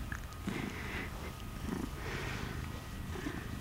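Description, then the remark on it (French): A purr box toy, soft to the touch, gives off a steady mechanical imitation of a cat purring, a low rhythmic rumble pulsing evenly throughout with no voices. “C'est une boîte à ronron. Un chat qui ronronne, ça vibre.”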